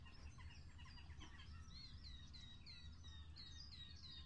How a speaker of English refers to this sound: Oh, there you go. Birdies. That's trebly. As luck would have it. What's that? It's a bird.